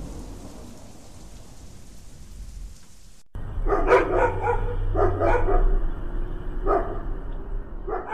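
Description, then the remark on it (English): Dogs bark in a rapid cluster of loud yelps, then a single bark trails after, all over a steady roar of hurricane rain and wind throughout, in a trailer for Hurricane-ine, a 'hurricane of dogs', coming to the Sci-Fi Channel. “It's Hurricane-ine, a hurricane of dogs.”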